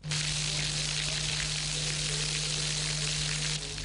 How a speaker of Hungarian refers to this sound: Ez a vízcsobogás a Batthyány téri Hév végállomás falaiból jön, ugyanis betölt ide a Duna vize.